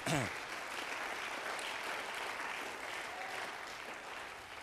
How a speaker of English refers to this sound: Would you agree with me and clap your hands to the Lord?